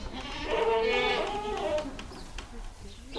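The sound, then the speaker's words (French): Goats bleating as a herd of 42 adults, 16 young females and a young buck on a cheese-making farm: one long, loud, quavering bleat wavers for over a second, with overlapping calls, then fades into softer, scattered sounds. “Elles nous signalent qu'elles sont là.”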